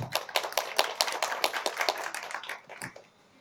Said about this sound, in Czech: Takže pan Zajpci potlesk taky zaslouží.